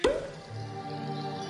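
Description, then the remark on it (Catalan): A single sharp pop right at the start, like a cork pulled from a bottle, with a short hollow ring, followed by a soft steady tonal hum underneath. “Destapa.”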